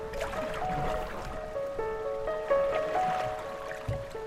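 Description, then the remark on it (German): Canoes, 5-metre boats paddled one behind another, move through a lake that narrows into a narrow green tunnel in the afternoon. A steady swish and trickle of water while birds chirp and whistle in the background. No one speaks. “Man hat tatsächlich das Gefühl, als paddle man durch einen Dschungel.”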